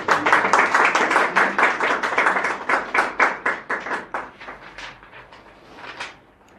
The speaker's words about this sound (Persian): بسیار عالی، ممنون. تشویقشون بفرمایید.